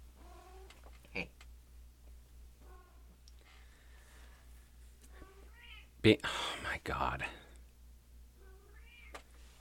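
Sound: cat meowing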